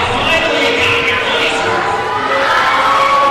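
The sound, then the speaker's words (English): A large wrestling crowd roars steadily throughout as the wrestler Rockstar prepares to cut a promo, a dense wash of cheering and shouting voices that stays loud and unbroken for the whole few seconds. “Getting a nice reaction from the crowd, I must say.”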